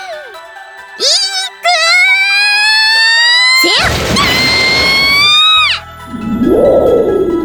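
lightning strike thunder crash

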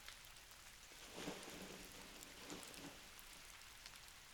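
rain falling

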